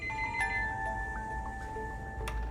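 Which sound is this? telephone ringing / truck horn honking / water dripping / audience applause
telephone ringing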